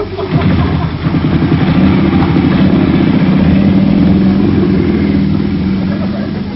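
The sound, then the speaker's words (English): A motorbike engine revs loudly and steadily as riders jump on the bike to escape, its low throaty rumble holding strong for several seconds with a slight rise in pitch midway. “Quick, Bill, Andre, jump on his bike. Let's get out of here.”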